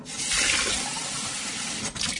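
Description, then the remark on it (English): Water runs steadily from a tap into an empty reusable water bottle being refilled, a continuous rushing splash that holds level for a couple of seconds with a brief flutter near the end. No one speaks. “And when it's empty, you just fill it up again.”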